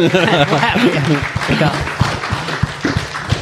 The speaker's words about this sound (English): a big round of applause for Neil from Liverpool